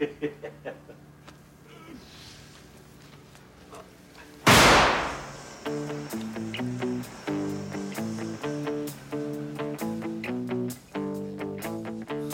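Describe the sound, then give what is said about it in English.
A single sharp firecracker bang, let off by the character Cosmo in a scene from the film Boogie Nights, bursts out loud after a quiet stretch, its crack ringing off briefly before a pop song with steady guitar chords takes over. “It's Chinese. That's why he likes letting out firecrackers.”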